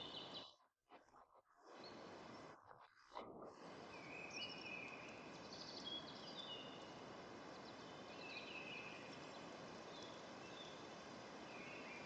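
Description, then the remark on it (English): Faint, scattered birdsong chirps drift through a steady rushing, rustling outdoor ambience in a forest, with a few brief dropouts near the start and no voices. “You perceive the field of birds, the creaking of trunks and branches.”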